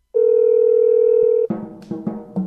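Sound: telephone dial tone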